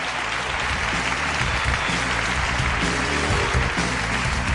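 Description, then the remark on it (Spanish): Sustained applause from a large audience fills an auditorium at a show celebrating more than 30 years of mysteries, with guests and friends from different parts of Spain; a dense, steady wash of clapping that holds at full volume throughout without any speech. “Y os pido de nuevo un aplauso para que se sienta que estamos aquí.”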